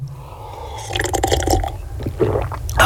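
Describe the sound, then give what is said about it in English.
Black coffee trickles and splashes steadily into a cup for a few seconds, a wet, bubbling pour with small drips, rising slightly in pitch as it fills, over a low hum. “That, my friend, is a lovely black coffee.”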